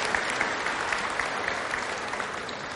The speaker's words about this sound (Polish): zasłużone gorące brawa otrzymali kolędnicy z prawosławnej szkoły świętych Cyryla i Metodego w Białymstoku.